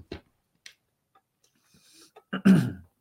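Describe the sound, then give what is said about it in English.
A couple of faint clicks and some soft throat noises lead into a loud, short cough as a person clears their throat before reading a passage aloud. No one speaks. “I'm coughing with Mars and Saturn to clear the throat.”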